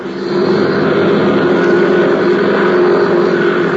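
A small airplane engine idles loudly and steadily as a young flight instructor warms it up before takeoff at the Curtis airfield, ahead of a night flying lesson. It is a continuous droning rumble with a throaty hum that holds even throughout, with no voices present.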